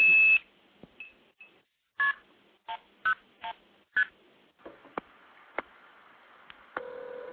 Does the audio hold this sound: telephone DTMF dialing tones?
yes